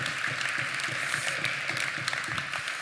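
A crowd applauds steadily, with dense overlapping claps forming a continuous, fairly loud patter that holds at an even level throughout, with no voices.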